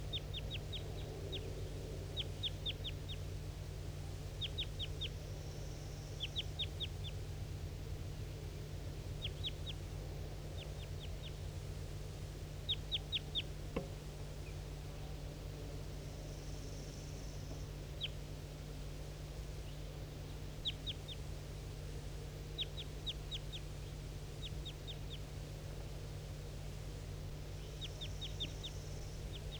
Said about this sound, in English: Wild bird I'm pointing to. That was a wild bird.